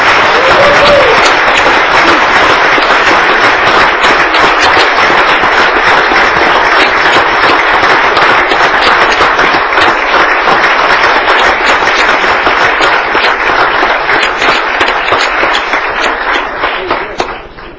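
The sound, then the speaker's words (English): An audience at a ceremony applauds steadily for about eighteen seconds, a dense, loud wash of many hands clapping that holds even throughout before tapering off slightly at the end. “And you may now applaud and take pictures.”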